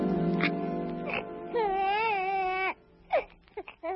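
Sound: newborn baby crying loudly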